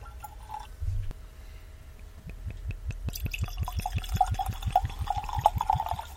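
Beer glugs steadily out of a bottle into a glass, a quick rhythmic series of gurgling pulses that builds toward a brighter, fizzy splash as the glass fills, clear with no talking.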